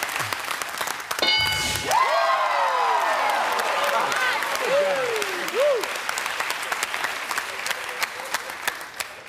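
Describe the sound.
An audience applauds steadily for about nine seconds, a dense, even patter of many hands, with a few whoops and cheering voices rising and falling over the clapping.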